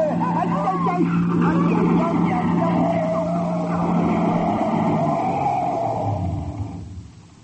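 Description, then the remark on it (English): A car engine roars steadily at high speed as the car races toward the border. It is a loud, sustained droning hum with a rough, rumbling texture that holds for several seconds before fading away at the end. “You've got to force that car off the road before they can stop it.”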